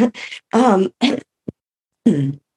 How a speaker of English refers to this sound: excuse me. It's not COVID, it's a weed cough. That's what I have to tell people all the time.